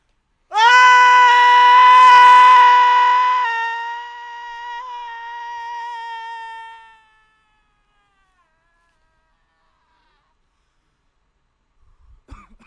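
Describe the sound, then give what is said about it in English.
A person screams right into another person's ear: one long, loud, high-pitched scream that holds for about six seconds, easing to a softer sustained wail before stopping abruptly, followed by silence. “So right now, I think I'm going to just scream.”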